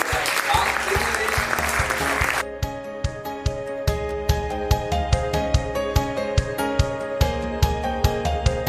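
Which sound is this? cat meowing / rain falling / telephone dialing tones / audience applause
audience applause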